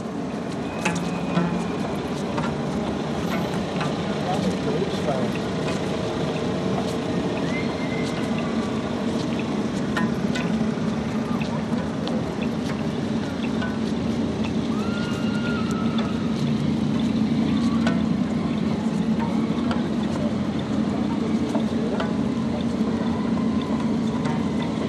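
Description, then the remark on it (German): Steady street traffic at an intersection: a constant low rumble of passing engines, with occasional louder vehicles and faint voices mixed into the continuous wash of city noise. “Okay, dann ein kleines Konzert an der Kreuzung von einer Minute.”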